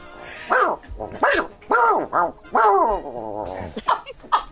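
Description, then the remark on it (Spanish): A person's voice imitates a six-month-old salt-and-pepper miniature schnauzer puppy barking: a quick series of about eight high-pitched, yappy yips and whiny barks, fairly loud, with no other talk. “Schnauzer miniatura, sal y pimienta 6 meses.”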